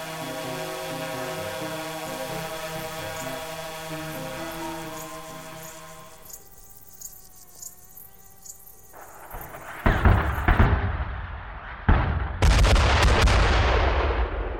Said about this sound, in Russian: Чуть позже мы это поняли, когда прилетело. Осколки от разорвавшихся минометных снарядов закрутились в своем смертельном танце.